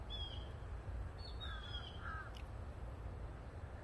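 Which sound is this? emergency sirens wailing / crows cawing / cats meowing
crows cawing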